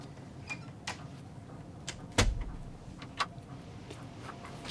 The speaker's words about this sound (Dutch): Draai de deur achter je op slot.